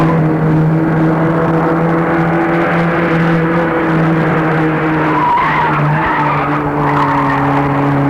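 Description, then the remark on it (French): A red car driving fast skids on a bend of an icy, frozen road with a loud, sustained tire screech that holds a steady whining pitch for several seconds, wavering slightly midway before continuing, with no voices. “Dérapa dans un tournant, percuta contre un muret, et la vitesse la fit se renverser.”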